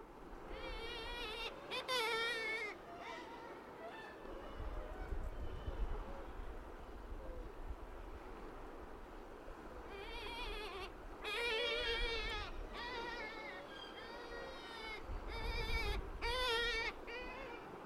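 Soft, wavering wailing moans of a gull's aerial alarm call to a predator arrive in two bouts, each a cluster of quivering, harmonic cries over a steady background buzz and low rumble.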